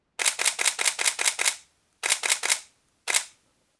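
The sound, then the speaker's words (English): A camera's shutter mechanism fires in quick bursts, first about eight rapid crisp frames, then a short run of three, then a final pair. It is clear, with no talking. “Let me shoot a few frames here and show you what I mean.”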